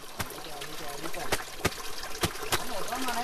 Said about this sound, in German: In einem Bach wäscht eine Kogi-Indianerin Wäsche. Mit einem Stein klopft sie auf ein Hemd, um den Dreck zu lösen.